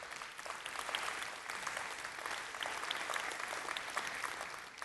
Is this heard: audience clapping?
yes